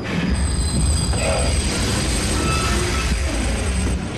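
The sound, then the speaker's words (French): A train rolls along with a heavy, steady rumble, thin high-pitched wheel squeal threading above it, staying loud throughout with no voices, and only a slight easing at the very end as the train slows down more and more and almost stops. “Puis, oh terreur, voici qu'il ralentit. Qu'il ralentit de plus en plus et stoppe presque aussitôt.”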